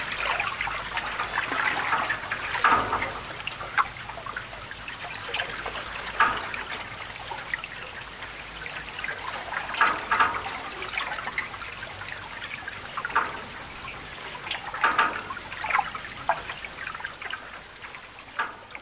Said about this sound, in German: Von Wasserrädern, Springbrunnen, künstlich angelegten Wasserfällen, Bächlein, Deichen samt Brücken, deren Bögen das Geräusch des Wassers vielfach zurückwerfen.